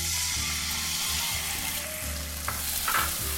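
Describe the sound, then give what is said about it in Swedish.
Soy sauce is added to a hot pan and sizzles loudly, a steady crackling hiss with a low humming drone underneath and a few sharper pops near the end, without voices. “Jag tar sojan i min hand. Kolla, det har redan börjat få färg. Jag tillsätter sojan.”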